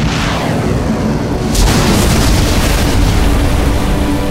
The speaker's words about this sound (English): Shouldering the tube-shaped weapon, Ryan fired the law at the largest cluster of pirate boats he saw.